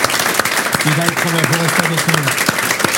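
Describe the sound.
A crowd claps steadily and densely for about three seconds, loud, while a voice rises briefly over the applause in the middle.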